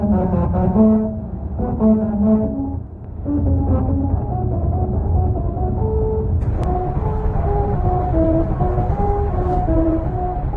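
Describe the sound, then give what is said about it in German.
Car tyres rolling over grooved strips on a motorway in Turkey hum out a Mozart melody, a sequence of buzzy, stepped tones over a steady low road rumble, with no talking, heard from inside the car. The grooves make the tyres vibrate at set pitches. “Ihre Rillen lassen die Autoreifen in bestimmten Tonlagen vibrieren und so sind im Inneren des Autos Töne zu hören.”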